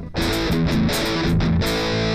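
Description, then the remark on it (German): A heavily distorted electric guitar plays chunky rhythm-guitar riffs through an amp, loud, with thick fuzzy overdrive and a few short pauses between phrases. “Oh, das macht diese sehr fassige Verzerrung, die es damals halt gab, weißt du?”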